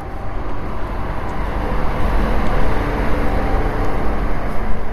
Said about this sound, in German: Stahlrohre, Leitungen, Tanks, typischer Klang eines Industriegebiets. Nur ein paar hundert Meter weiter mündet die Weser in die Nordsee. Dass die Anlage auf dem Gelände des Chemiewerks von Kronos Titan steht, ist kein Zufall.